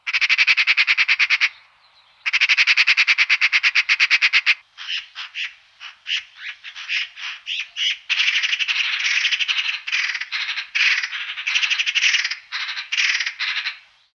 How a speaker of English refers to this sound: Magpies give a harsh rattle that has been described as someone shaking a bag full of money.